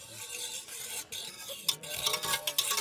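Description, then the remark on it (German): A whisk stirs briskly through water in a pot, dissolving 15 grams of curd soap in 1 liter of boiling water, which turns milky and bubbly. It makes a steady swishing and sloshing with faint metallic clicks against the sides. No voices are present. “Wir rühren mit Schneebesen um und es wird milchig, das Wasser, und blubberig.”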